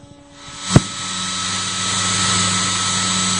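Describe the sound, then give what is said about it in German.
A sharp click as a plugged-in hair dryer is switched on at full blast in a garden, then a loud, steady whooshing roar of air over a low motor hum that carries on unbroken, with no one talking. “Hat die Gemeinde eine Idee, wofür der Föhn jetzt im Garten gebraucht wird?”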